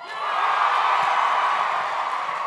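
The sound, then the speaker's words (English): An audience cheers and whoops in a steady, dense roar that swells in quickly and holds loud for a couple of seconds, with no single voice standing out. “So cheer louder.”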